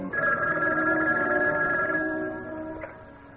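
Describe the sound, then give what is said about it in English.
A telephone in an apartment rings once in a long, steady bell tone that stays loud for about two seconds, then fades as it tails off, with no voices. “I returned to my apartment, was just finishing a shower, when the phone rang.”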